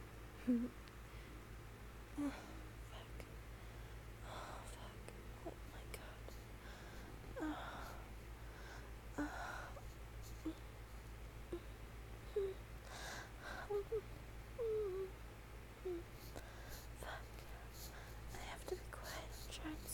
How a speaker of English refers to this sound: I hope I'm not breathing too loud because last time I kept breathing on the microphone.